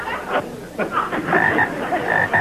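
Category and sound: animal, frogs croaking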